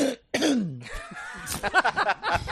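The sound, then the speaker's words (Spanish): A couple of harsh coughs burst out one after another, followed by a raspy stretch of throat clearing and a few short, gravelly hacks. “Pastillas para la tos.”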